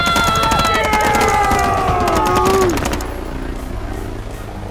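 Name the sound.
gunfire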